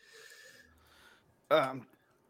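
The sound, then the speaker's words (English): A single loud, abrupt cough, a short harsh burst after a stretch of quiet breathy background noise. “Sorry, keep coughing up a storm.”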